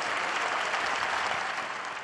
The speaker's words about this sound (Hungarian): A Szent Péter téren jelenlévő hívektől nagy tapsot kért Lengyelország királynőjének. Un applauso alla regina della Polonia. Tutti.